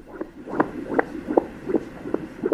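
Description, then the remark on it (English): A fetal heartbeat heard through an ultrasound monitor during a last ultrasound scan of a 48-year-old mother-to-be in China, shortly before birth: rapid, steady whooshing pulses, about six in under three seconds, over a low murky hum, with no voices. “Heartbeat of an imminent arrival. A last ultrasound scan for a 48-year-old mother-to-be.”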